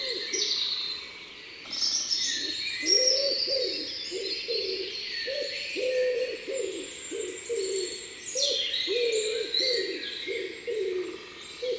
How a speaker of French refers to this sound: Le chant du pigeon ramier est très simple. Grou, grou, grou, grou, grou, trois ou quatre fois, avec pour finir un grou bien appuyé.